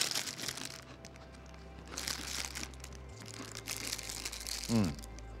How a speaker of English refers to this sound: So anyway, we have crackers for us. And let's just go ahead and let's eat those crackers.